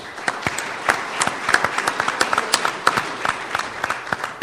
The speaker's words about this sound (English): I want to congratulate the Grains Council on its 50th anniversary. So give yourselves a round of applause.